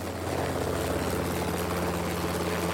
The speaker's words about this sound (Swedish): Ett högt dån hörs och jag ser hur en helikopter kommer fram över trädtopparna.